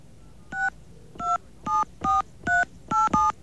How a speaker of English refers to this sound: However, for some reason, listen to what happens when we try to go through Sprint. We're dialing the same exact phone number, except we're using the Sprint carrier access code.